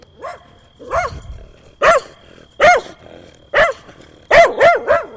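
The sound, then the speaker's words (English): A dog barks repeatedly and loudly, sharp yaps spaced unevenly at first, then a quick cluster of barks toward the end, with no one speaking. “Oh, here's the dog.”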